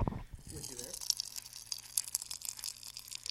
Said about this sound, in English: Pop Rocks, they hold their pop for quite a long time.